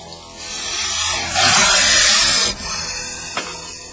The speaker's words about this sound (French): J'entends la douche là-bas. Il y a des bruits bizarres là-bas à la douche. J'entends comme des bruits bizarres là-bas à la douche.